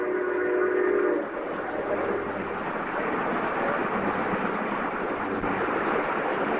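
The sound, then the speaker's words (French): A steam locomotive rumbles past through the countryside with dense, steady chuffing and hiss, opening with a brief sustained whistle tone before the noisy churn of the engine fills the rest. No one speaks. “Alain Corbin, une locomotive à vapeur passe à travers la campagne.”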